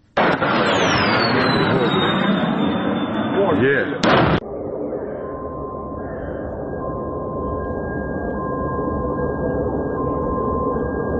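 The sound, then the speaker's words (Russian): A missile flying in the morning toward the left bank of Kyiv, the Ukrainian capital, is shot down in a loud explosion: a roaring blast with a falling whistle, then a second sharp bang, fading into a long low rumble with a faint steady tone. “Вот момент сбития одной из ракет, которые летели сегодня утром на левый берег украинской столицы.”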